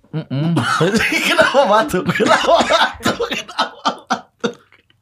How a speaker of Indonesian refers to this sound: Kenapa batuk?